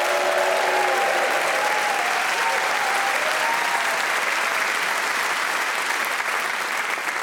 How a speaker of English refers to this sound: Time, of course, to introduce you to the four brilliantly talented people who are playing Just a Minute this week. They are Desiree Birch, Giles Brandreth, Emma Siddy, and Josie Lawrence. Please cheer for all four of them.